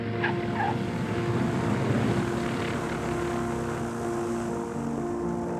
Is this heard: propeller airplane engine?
yes